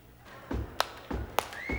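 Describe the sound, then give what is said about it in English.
Three heavy foot stomps on a floor land in a steady rhythm, each followed by a sharp hand clap on the backbeat, making an alternating stomp-clap beat with no voices, demonstrating how to clap on the backbeat. “All you gotta do is stomp your foot first.”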